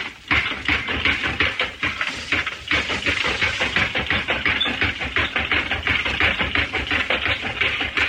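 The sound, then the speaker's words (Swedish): A mechanical typesetting machine clatters steadily as its operator presses keys with one hand and works a lever with the other, making the machine thump up and down and the frame move. Rapid repeated thumps and metallic clicks in a dense, even rhythm throughout, loud and continuous with no voices. “Med vänster handen för han en spak som gör att maskinen gör ett dunk upp och ner och ramen flyttar sig.”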